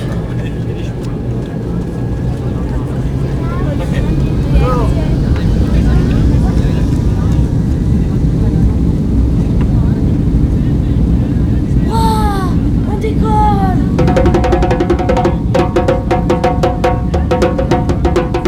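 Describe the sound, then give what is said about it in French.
An airplane takes off, its engines a loud, steady roar that fills the whole stretch, with brief higher whines and faint voices mixed beneath the drone. “Veuillez maintenant attacher votre ceinture, redresser votre dossier et relever votre tablette en vue du décollage.”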